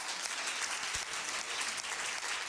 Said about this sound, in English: the Ministry of Education did a phenomenal job, and I think we ought to clap our hands for that.